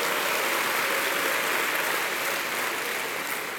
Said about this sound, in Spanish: Dar un aplauso a Cristo, bendito sea el nombre del Señor.